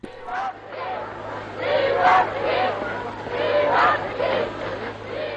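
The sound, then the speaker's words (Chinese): A large crowd of French people cheers and shouts enthusiastically as General de Gaulle leads the Free French forces into central Paris, a dense wash of overlapping voices that swells and peaks repeatedly, sustained and fairly loud throughout, with a low steady hum underneath. “戴高乐将军率领自由法国部队进入巴黎市中心时，法国人民热烈欢呼。”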